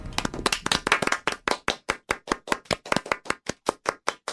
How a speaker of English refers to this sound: To say, wow, you gave up clapping so quickly. I don't even know you anymore. I'll never give up on clapping.